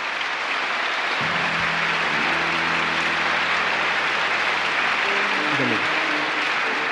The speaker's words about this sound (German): Kohlerschreiers, wir grüßen Sie herzlich mit einem Beifall und danken für Ihr Kommen.